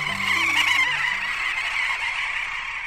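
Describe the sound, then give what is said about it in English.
A giant flock of tiny dovekies, robin-sized seabirds related to auks and puffins, calling at once: a dense, continuous, raucous overlapping chatter of high squeaky and honking notes that stays loud and steady throughout, with no talking. “And this is a giant flock of tiny dovekie.”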